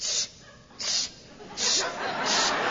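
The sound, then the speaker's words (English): A voice imitates milk squirting from a cow's teats while milking a cow in Kalamazoo, Michigan: four breathy, high-pitched hissing bursts in a steady rhythm, each spraying out and fading before the next, with no words spoken. “I'm really milking this cow.”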